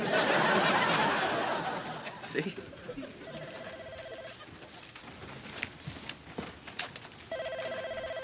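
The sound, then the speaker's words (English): A telephone that is answered as Keller Marsden rings in two short, trilling electronic bursts a few seconds apart, fairly clear over a muffled background of rustling and soft indistinct voices. “Hey, I may not know much about business, but I do know that when a phone rings, you answer it.”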